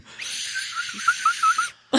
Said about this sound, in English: If you hated the slide whistle, I wanted the kazoo because I wanted the spaceship noise.